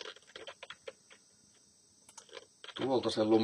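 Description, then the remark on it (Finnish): Computer keyboard clicks tap out irregularly while someone copy-pastes code: a handful of scattered keystrokes followed by a quicker flurry, before someone starts talking over the last second. “Noniin, no sitten me tehtiin monimutkaisempaa, että sitten me tehtiin se lumiukko.cs siellä, en nyt jaksa sitä naputtaa siinä, niin copypasteen tuolta sen lumiukon koodin.”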